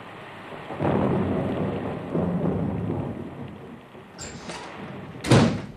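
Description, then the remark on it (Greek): A thunderstorm rumbles on with steady rain hissing throughout, deep rolling thunder swelling early on, then a sharp, loud crack near the end. “Είδες, Μπόρα, που πιασε.”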